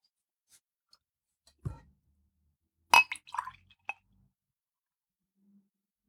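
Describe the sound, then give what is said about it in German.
A dull knock, then a cluster of sharp glassy clinks and clatters as a drink is poured into two tiny glasses and they are set down and handled, with no voices around. “Dann kannst du tatsächlich noch mal einschenken vom Mikrofon.”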